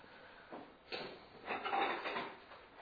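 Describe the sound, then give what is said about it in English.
A door creaks and knocks as it swings open and shut, with a sharp thud near the start followed by a longer scraping rattle. “Please, can you someone holds the door because it's annoying everybody.”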